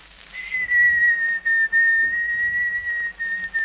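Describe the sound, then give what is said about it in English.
A person whistles a slow, steady waltz melody, the pure tone gliding gently between notes with brief breaths, clear with no talking. “The … is my favorite.”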